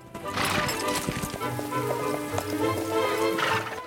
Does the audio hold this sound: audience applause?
no